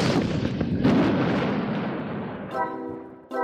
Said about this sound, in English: or we'll cause an avalanche with a giant cannon.